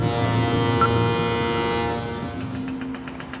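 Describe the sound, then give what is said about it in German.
A loud, steady underwater drone of a ship engine, thick with low humming tones. After about two seconds it eases slightly and a faint rhythmic pulsing emerges beneath the hum. “Doch das große Problem sind nicht Orcas oder Haie, die die Kälber als kalorienreiches Frühstück verspeisen wollen, sondern Lärm. Unterwasserlärm.”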